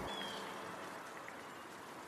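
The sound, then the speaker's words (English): Steady rain falls as a continuous, even hiss filling the whole moment, with no voices and a brief faint high tone near the start. “And I don't want to get rained on.”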